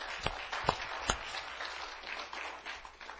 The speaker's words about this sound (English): let's give them a round of applause for being here.